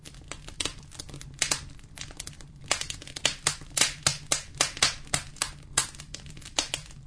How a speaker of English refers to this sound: The sappy pine pops and sizzles in the stove.